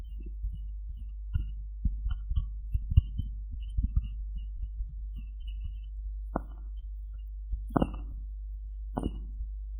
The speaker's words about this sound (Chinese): 还想听心跳声，好啊，一会儿给你弄。